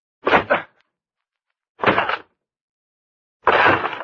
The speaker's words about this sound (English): I'm going to break down the door.